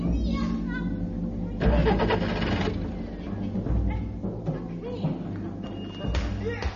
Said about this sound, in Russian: А Роберт Гринхилл никак не может справиться с мотором своего автомобиля.